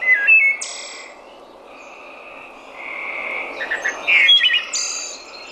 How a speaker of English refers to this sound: Maybe a wood thrush sounds like a recorder, maybe. Is that EOLA? And then it has a little trill at the end. I think I have a wood thrush number 13. It could potentially be it.